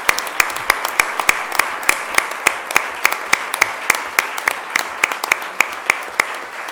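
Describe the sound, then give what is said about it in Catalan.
An audience in Sitges applauds the pandonistes and the pregoner of the Festa Major de Santa Tecla, a dense wash of many hands clapping with sharp individual claps popping out in a quick irregular rhythm, sustained at an even, fairly loud level throughout. “El primer dels aplaudiments pels pandonistes, les pandonistes i el pregoner.”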